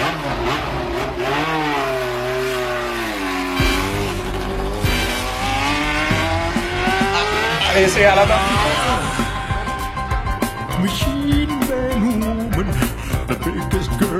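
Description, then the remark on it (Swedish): Emerson Fittipaldi's old McLaren racing car engine roars past with a stereo effect in a song intro, its loud whining pitch sweeping up and down as it revs, before a driving rhythmic music track takes over in the second half. “Och bilen man hör där i introt, det är inget mindre än Emerson Fittipaldis gamla McLaren-bil.”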